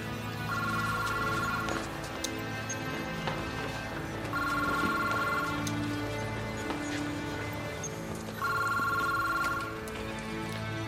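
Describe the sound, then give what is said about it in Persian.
A telephone at a police criminal investigation special operations unit rings with a call from the prosecutor's office, in three evenly spaced bursts, each a steady electronic trill lasting about a second, clear over a continuous low background hum. “گوشی جناب سروان از دادسرا تماس گرفتن.”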